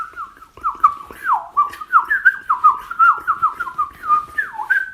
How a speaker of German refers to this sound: Dann natürlich die Mönchsgrasmücke, die schnelle Amsel, wie wir sie auch nennen